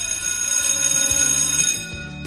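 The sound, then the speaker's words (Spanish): A school bell rings loudly and continuously for about two seconds, a steady metallic electric clang with no voices, then cuts off abruptly. “No sé tú, pero yo en ocasiones escucho timbres.”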